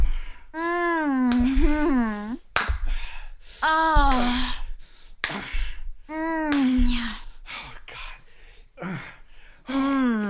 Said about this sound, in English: Oh, yeah, slap that ass.